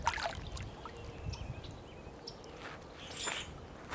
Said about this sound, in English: See if we can hear the water. It's one of my favorite sounds in the world, the sound of water. I feel like it calls to something in our veins.